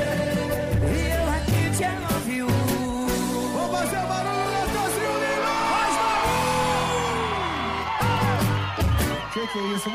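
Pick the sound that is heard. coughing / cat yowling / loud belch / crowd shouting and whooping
crowd shouting and whooping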